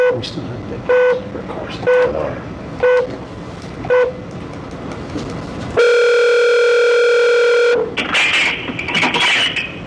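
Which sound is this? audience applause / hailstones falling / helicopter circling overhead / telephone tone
telephone tone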